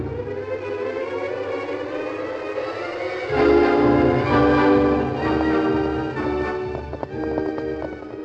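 Galloping horse hoofbeats on a road, coming up behind a rider, a quick repeating clatter that grows more distinct toward the end, mixed under loud, swelling dramatic music with no voices.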